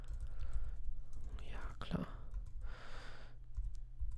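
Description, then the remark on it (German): Slow, irregular typing of code on a computer keyboard: sparse, sharp key clicks spaced unevenly over a steady low hum, with a soft breathy whoosh partway through. “So, ich bin wirklich sehr langsam auf dieser Tastatur, aber egal.”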